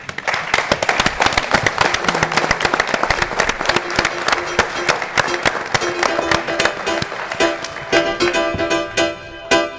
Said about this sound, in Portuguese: yo os pido un fuerte aplauso para ellos.